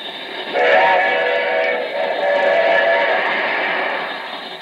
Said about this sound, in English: Be on the lookout for a runaway locomotive, just torn loose from the railroad exhibit at the World's Fair. It is now believed to be on the New York Central tracks, heading north toward Albany. No engineer is in the cab.